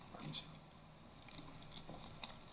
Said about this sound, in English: So moving on to the next generation, and take a drink of water here.